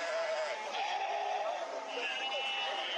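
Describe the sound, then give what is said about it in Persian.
Sheep and goats bleat in a dense, overlapping chorus, several animals calling at once amid a constant crowd murmur, at the livestock market in Kunduz, where herders bring hundreds of cattle, sheep and goats for sale. “اینجا بازار فروش مواشی در کندوز است، مکانی که مالداران این ولایت صدها رس، گاو، گوسفند و بز را برای فروش از ولسوالی‌های دور و نزدیک به مرکز این ولایت آورده اند.”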